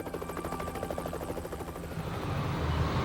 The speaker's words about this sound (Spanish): Examinaron el lugar centímetro a centímetro mientras helicópteros observaban desde el aire.